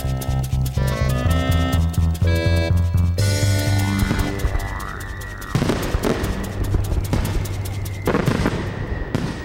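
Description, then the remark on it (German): Fireworks bursting in a loud, dense barrage, with crackling pops, sharp booms and rising whistles overlapping continuously, plus tonal bands that sound like sustained music underneath. “Das ist kein Gewitter, sondern nur ein Feuerwerk.”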